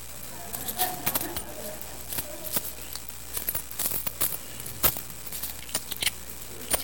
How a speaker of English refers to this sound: Y'all know that certain coins make certain sounds, right? Okay, so I got pennies and quarters. Let's.